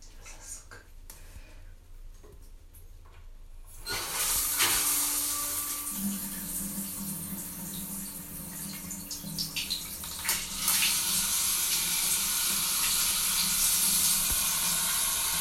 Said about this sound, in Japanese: 水がね、強いと声が聞こえなくなっちゃうと思うので、ちょっと弱めにして